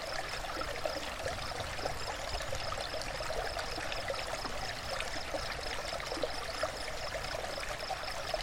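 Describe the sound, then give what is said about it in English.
A gentle babbling brook flows steadily, with soft, continuous trickling and bubbling water and no voices. “Two, gentle babbling brook.”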